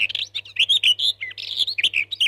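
Birds chirp and sing in a lively, continuous run of quick high tweets and trills, clear, with a faint low hum underneath and no voices.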